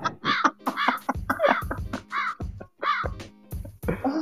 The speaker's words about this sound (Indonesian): Tuh, gagak aja udah bunyi, Pak. Aduh. Iya, memang gagak ini agak kurang ajar.